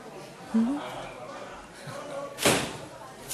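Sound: door slamming shut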